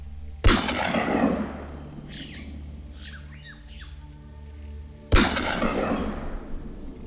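Two loud, sharp gunshots, fired by a farmer at a creature in a forest, ring out about five seconds apart, each echoing briefly, with faint bird squawks and chirps in between over a low rumbling background.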